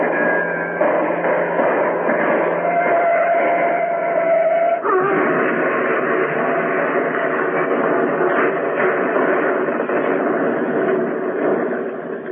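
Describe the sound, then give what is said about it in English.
A car crash: a steady mechanical roar with a rising, whining tone that breaks off abruptly partway through into a rougher, clattering rumble, loud throughout with no voices. “Holy Toledo, what a crash.”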